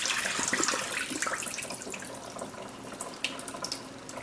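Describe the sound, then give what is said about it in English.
Water pours and splashes steadily into a sink as rinse water from washed rice is tipped out of a pot, a continuous rushing with small irregular spatters and no talking. “And again, I'm gonna come and I'm gonna spill all the water out.”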